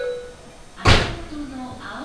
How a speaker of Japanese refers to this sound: 11番線ドアが閉まります。ご注意ください。 静岡行きドアが閉まります。駆け込み乗車はお許しください。